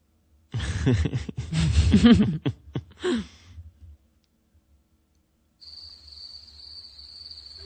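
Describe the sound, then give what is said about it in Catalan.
A voice speaks briefly, then after a quiet pause a steady, high-pitched chorus of crickets chirps continuously at night, around 2 a.m., at a country house 8 kilometres from the village, moderately loud, over a low background hum. “Són grills. És clar, canten de nit.”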